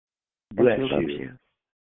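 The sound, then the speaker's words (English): A single sneeze bursts in abruptly and carries a strong voiced, almost vocal tone for just under a second before cutting off, with silence on either side. “Bless you.”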